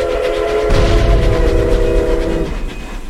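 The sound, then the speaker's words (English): A train rumbles past, a sustained horn blast sounding over heavy low rumble and rattling that swells midway and fades as the horn cuts off near the end. “I absolutely love that because of the train.”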